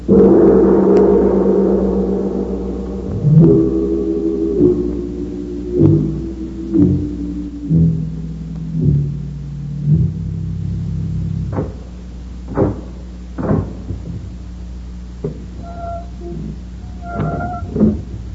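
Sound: heavy vault door opening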